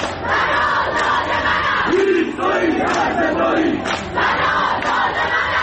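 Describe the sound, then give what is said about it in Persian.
A large crowd of protesters chants together at night in Ekbatan, Tehran, in a loud, continuous roar, voices rising and falling in rhythmic swells, with a few higher shouts standing out briefly midway. “و اینجا اکباتان که دیگر شبها خواب ندارد.”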